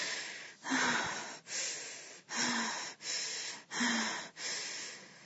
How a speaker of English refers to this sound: Oh my God. I'm like an animal, panting.